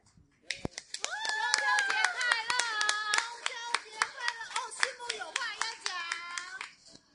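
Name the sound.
audience clapping hands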